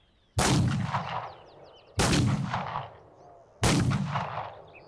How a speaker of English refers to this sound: Three shots pierce the night air. Then all is quiet, and the coach rumbles on.